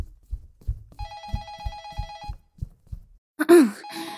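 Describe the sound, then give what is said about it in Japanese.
A telephone rings at Romantic Doll, a love doll business, with a bright, warbling electronic trill for just over a second, over a steady pattern of soft low thumps, followed by a brief human groan or sigh near the end. “あ、やっべ、電話。”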